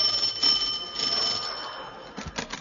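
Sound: bell ringing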